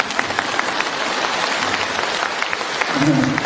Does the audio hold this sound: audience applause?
yes